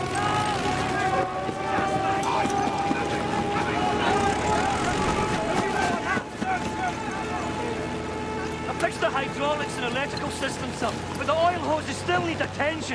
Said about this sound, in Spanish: Y ojo, que hemos puesto sonido de aviones para meternos de lleno en la historia que hoy nos traes.